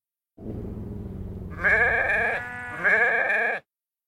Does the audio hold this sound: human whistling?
no